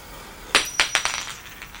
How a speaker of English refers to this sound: A gold wedding band drops from her hand and rolls to a stop at Malcolm's feet.